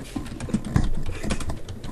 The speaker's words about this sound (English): Okay, it just wasn't him typing.